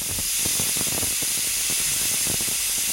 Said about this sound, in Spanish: Y esto que vamos a escuchar es el sonido de una olla a presión.